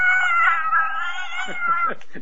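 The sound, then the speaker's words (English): A loud, drawn-out cat yowl, used as a censoring sound effect, wavers in pitch for nearly two seconds, then breaks into a few short, choppy cries at the end. “So I guess I'll kind of censor myself and use the cat call”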